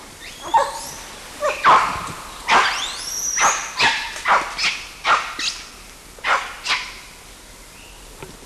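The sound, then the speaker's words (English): Monkeys call: an adult male barks repeatedly in short, sharp bursts, about a dozen in an uneven series, while another monkey gives high rising squeals woven between them. No talking. “Somebody barking and someone else squealing.”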